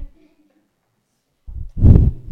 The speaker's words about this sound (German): Entschuldigung, ich schnaufe zu laut, gell?